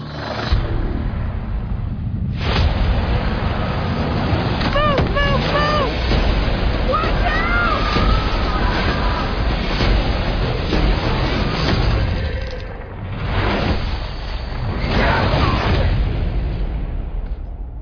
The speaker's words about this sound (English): That lightning, it hit those markers and it took us somewhere.